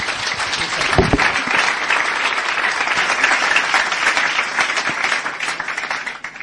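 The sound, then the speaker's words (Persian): An audience breaks into steady applause in thanks to the engineer, many hands clapping together in a dense, sustained wash that holds at an even level for several seconds before tapering slightly at the end. “خیلی ممنون آقای مهندس، تشویق کنیم.”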